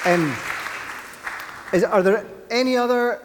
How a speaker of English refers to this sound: Let's look around, look at our Holiday Club team. I think we should give them a big cheer for being involved. Well done, guys.